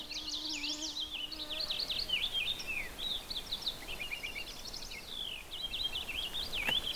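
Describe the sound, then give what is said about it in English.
A male purple finch on its nesting territory in July sings a long, rapid, run-on warble of sweet twittering notes, continuous for several seconds, in a transitional boreal woods of conifers and deciduous trees, over a quiet outdoor background with a faint low hum at first. “That's a very sweet song of a purple finch.”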